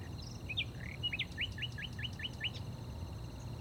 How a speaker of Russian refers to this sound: Где-то понад речкой защелкал шальной запоздалый соловей.